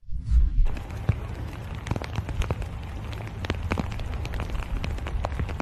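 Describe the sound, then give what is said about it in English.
Steady rain patters down on a hard surface during an appearance by Joe Biden, a dense hiss of drops with sharper individual taps scattered throughout, preceded by a brief low rumble at the very start. “Here's video of him over the weekend, literally not knowing how to get out of the rain.”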